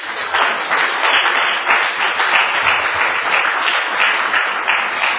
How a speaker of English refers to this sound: Given that, let's have a round of applause for our panelists.